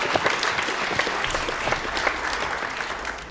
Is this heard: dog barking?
no